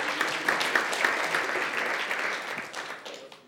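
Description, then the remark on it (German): A crowd applauds with steady, dense clapping that holds at an even loudness for a few seconds before thinning out slightly at the end, applause for the team at the back who put up the verses. “Mein Applaus hier nach hinten.”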